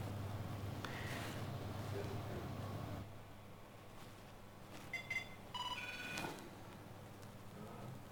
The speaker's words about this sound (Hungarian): Na, akkor most én azt csinálom, hogy én fölhívok a mobilomról, sima mobiltelefonról beszélünk,